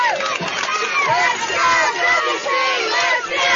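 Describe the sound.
Fans at a baseball stadium cheering loudly and steadily as Columbus is down to its final out, a dense roar of many yelling voices that holds throughout with only brief dips.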